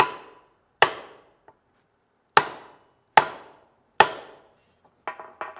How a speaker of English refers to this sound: And you do the same thing. You turn it over on something hard. Take a real hammer. Hold down with your left hand.